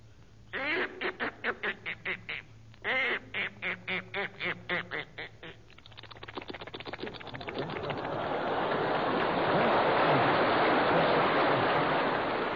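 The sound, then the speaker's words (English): A voice imitates a duck going into the water: two runs of rapid, rhythmic quacks, then a quickening patter that swells into a steady rushing, splashing water sound, loud, with no talking. “Let's have your imitation. First here is Duck Going Into the Water.”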